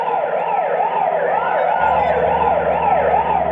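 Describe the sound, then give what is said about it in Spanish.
A police patrol car siren, as the car chases a white car through traffic, yelps in fast, repeating rising-and-falling sweeps, loud, sounding continuously over a low rumble of traffic with no voices. “al pasar frente al restaurante francés, se siente a salvo a pesar de escuchar la sirena”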